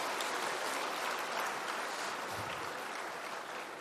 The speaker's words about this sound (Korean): 다시 한번 큰 박수로 박수해 주시기 바랍니다.